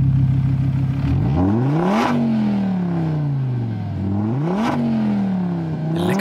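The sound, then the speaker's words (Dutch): A Donkervoort D8 GTO sports car with Audi's 2.5-liter five-cylinder engine revs hard through several gear changes, its rough note climbing, dropping sharply at each shift, then climbing again. Loud, with no voices. “Dit is de vijfcilinder van Audi, maar die sleutelen dus in hun donker voor 2,5 liter.”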